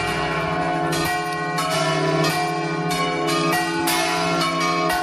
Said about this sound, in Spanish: Es el sonido de las campanas de las iglesias que tocan para ir a misa, pero este no es el único toque que dan las campanas.